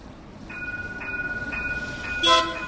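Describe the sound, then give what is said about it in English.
A sleek yellow-striped tram rolls through a Dublin street with a steady low rumble and a faint rhythmic clatter, then sounds a short, bright horn or bell toot near the end. No one speaks. “The city's sleek and shiny yellow-striped trams glide through these streets, reeking sophistication and continental charm.”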